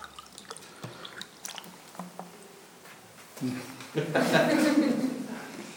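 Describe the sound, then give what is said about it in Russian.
A few light clinks and drips, then clean water pours steadily into a clean glass for about two seconds, the gurgling tone rising as it fills, fairly loud. “Где у нас вода есть? Есть. Вот стакан.”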